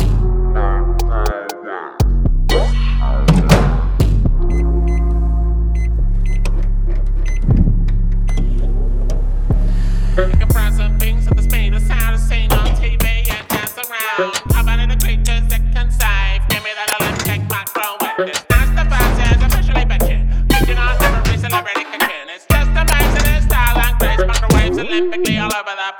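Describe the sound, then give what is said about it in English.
A loud, steady electric hum with a low droning motor tone runs throughout as a microwave oven heats a can of chili, with shifting buzzy overtones and brief dips. “We start with a can of chili, put it in the microwave.”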